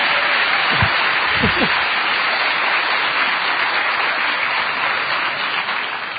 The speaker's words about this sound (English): I think Connor deserves a round of applause for that.